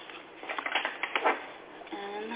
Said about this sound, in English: Sure. I'll shuffle some cards for you.